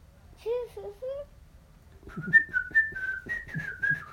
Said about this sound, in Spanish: Silbó el silbido del escuadrón de ayudadores. ¿Cómo va el silbido?